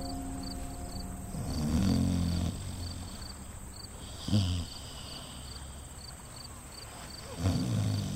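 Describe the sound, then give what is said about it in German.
A man lying in a rocking rowboat in a waterside building snores in deep, rumbling breaths, about three heavy snorts spaced a few seconds apart, fairly loud, while crickets chirp steadily in the background. “Er schnarcht, dieser Mann.”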